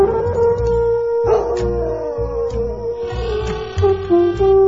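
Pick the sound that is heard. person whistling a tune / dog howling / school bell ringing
dog howling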